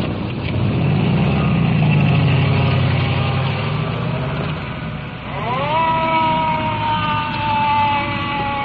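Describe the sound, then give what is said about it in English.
A heavy resuscitator truck engine rumbles and grinds steadily, with a rising mechanical whine building partway through; no one speaks. “Resuscitator truck on the left. Still grinding away.”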